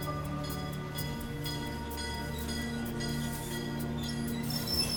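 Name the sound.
train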